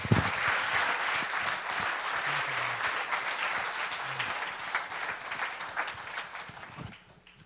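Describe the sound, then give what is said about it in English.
A church audience claps for the Lord, a dense, sustained burst of applause that stays loud for several seconds before tapering off at the end, with faint voices mixed in underneath. “Let's just clap for the Lord on that one.”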